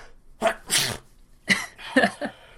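sneeze

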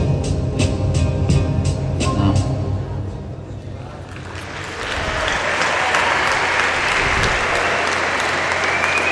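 crowd applause

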